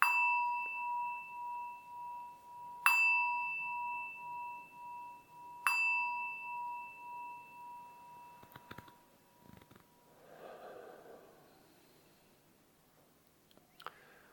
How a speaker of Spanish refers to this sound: Así que, bien, hemos hecho todo, estamos con el mudra y suena la campana. Eso indica que ya la inmovilidad es de rigor.